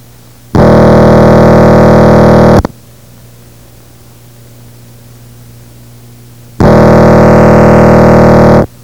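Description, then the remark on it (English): A telephone rings twice with an incoming call, each ring a loud, harsh, buzzy tone lasting about two seconds, separated by a quiet pause of roughly four seconds with faint hum underneath. “I'm just getting you continuing to ring, so I'm going to work on that.”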